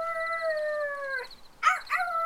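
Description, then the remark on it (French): A person with both hands cupped around the mouth imitates a wolf's howl: one long, steady, slightly falling howl, then two short rising yelps, fairly loud, with no talking. “… pose ses 2 mains autour de sa bouche et hurle à son tour.”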